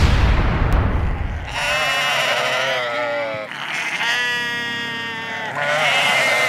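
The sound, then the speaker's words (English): Sheep on a small farm that raises sheep, market lambs and breeding stock bleat loudly in a string of long, wavering calls that overlap and run almost continuously, following a brief burst of low rumbling noise at the start. “My wife and I have a small farm. Come on. And we raise sheep, market lambs, and breeding stock.”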